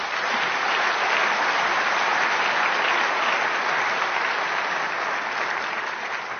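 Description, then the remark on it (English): Steady, dense audience applause for the speakers at a convention, many hands clapping at once in a continuous loud wash of sound with no talking, holding at an even level for several seconds. “Then I have an announcement to finish this off, but first I wanted to say maybe it's good to give a round of applause for the speakers.”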